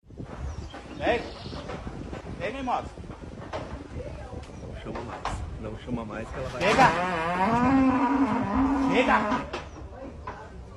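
cow mooing

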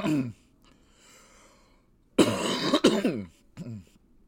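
cough

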